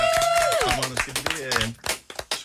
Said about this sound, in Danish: Så et kæmpe, kæmpe stort tak. Lige endnu en stor klap.